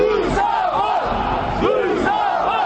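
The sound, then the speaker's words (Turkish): A large crowd at a Müsavat Party protest march in Baku, Azerbaijan, on April 29 against rising prices chants together in loud, rhythmic bursts, voices rising and falling in repeated shouted phrases with a steady roar of many people underneath. “Bugün Müsavat Partiyası ölkədə bahalaşma əleyhinə növbəti dəfə yürüyüş mitingi keçirib.”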